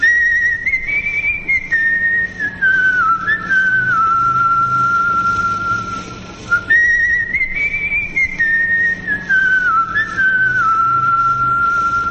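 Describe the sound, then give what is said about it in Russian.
A lone whistled melody, clear, rising then gently falling, played through twice with a brief pause between, over a faint steady background hum; the World War II call sign of the French underground radio station Radio Rodina, whistled by actor Claude Dauphin. “Она служила позывным сигналом французской подпольной радиостанции «Радио Родина». Ее насвистывал в то время актер Клод Дофен.”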